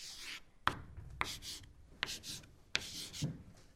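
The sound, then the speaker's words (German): Chalk scratching across a classroom blackboard as a teacher writes a task on it, in a series of quick strokes, with sharp taps as the chalk meets the board and raspy, hissing scrapes in between. No talking. “Oh je, Frau Halberstadt hat uns eine Aufgabe an die Tafel geschrieben.”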